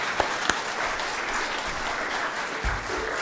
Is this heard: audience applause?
yes